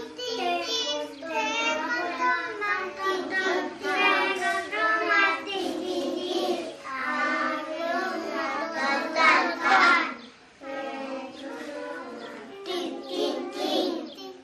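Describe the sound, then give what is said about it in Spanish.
A group of young children sings a nursery song about a mouse together in loud, bright unison, the melody carrying steadily with brief breaths between phrases, energetic throughout. “Bueno, a ver, cantamos fuerte. La del ratón.”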